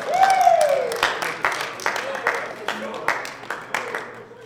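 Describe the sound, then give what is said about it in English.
A group of music ensemble players breaks into applause for their own playing, the claps landing in a loose steady beat at moderate loudness after a brief voiced sound at the start, with voices mixed in underneath. “Give yourselves some applause for that.”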